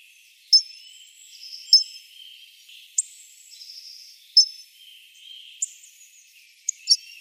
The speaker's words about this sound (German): einfach einen ziemlich massiven, kurzschwänzigen, dicken Fink. Ja, schön zusammengefasst. Und wir hören ihn uns nochmal an, den Gesang.